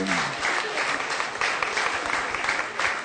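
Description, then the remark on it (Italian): Sustained applause from a group of people, a dense steady patter of many hands clapping at once, continuous throughout without any voices standing out. “c'è pure l'applauso.”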